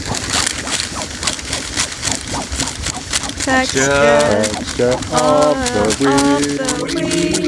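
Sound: rustling paper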